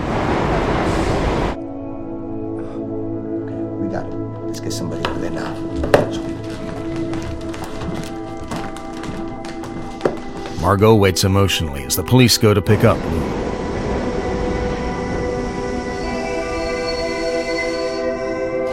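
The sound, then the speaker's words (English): A train rumbles in to a platform with a steady mechanical drone and high metallic squeals and clanks as it slows, fairly loud, while a voice speaks calmly over the noise. “She hangs up as a train arrives at the platform.”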